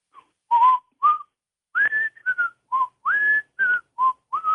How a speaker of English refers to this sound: That was a little before my time, but I definitely remember the, you know, the whistling and all that stuff. So, can you whistle the theme song?